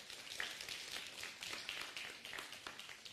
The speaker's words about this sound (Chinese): 阿们的拍手，把荣耀归给神。